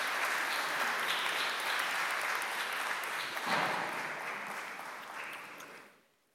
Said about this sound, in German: Und ich glaube auch nicht, wenn ihr es gleich seht, das ist eine richtig schwere Aufgabe, könnt ihr mal einen kleinen Beifall geben, muss hier richtig gefädelt werden.